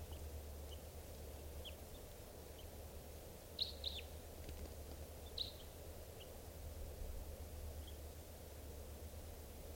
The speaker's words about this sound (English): Just captured that bird, and he will be number 630.